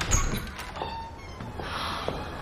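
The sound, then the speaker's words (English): A woman rushes over to a door and opens it: a soft low thump at the start, followed by faint rustling and light shuffling noises against a quiet background. “She rushes over to the door, then opens it.”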